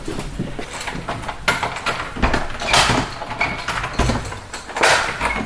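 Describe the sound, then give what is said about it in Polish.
A side door into a former friar's cell opens as visitors enter, amid shuffling footsteps and bustle, with a couple of louder knocks or clunks as people move through; no one speaks. “Teraz nie wejdziemy tymi drzwiami, tylko zostały tam z boku zrobione drzwi. To wejdziemy tutaj tędy.”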